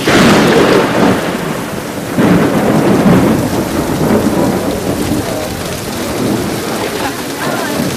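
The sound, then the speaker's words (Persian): Heavy rain pours down steadily over Fadan with deep, loud rumbles of thunder rolling through, and no pause in the downpour. “باران را بنگر که قحطی را از فدان می زداید.”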